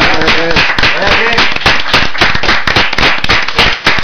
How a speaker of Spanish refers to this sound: Queremos daros las gracias por haber estado aquí y un buen aplauso para que tengan suerte.